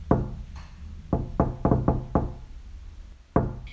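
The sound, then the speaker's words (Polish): Firm knocks on a wooden door: one knock, a quick run of five, then a single knock after a pause. Solid, with no voices. “Słyszę głosy i pukanie. Nic mnie już nie zdziwi. Ktoś puka.”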